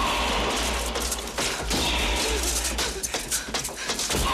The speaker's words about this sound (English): The doorknob in Jake's room rattles as Kate panics.